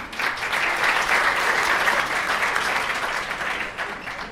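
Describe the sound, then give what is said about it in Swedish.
Sustained audience applause at a prize ceremony, congratulating culture award winners, a dense steady wash of many hands clapping at a fairly loud, even level throughout, with no voices standing out. “En varm applåd!”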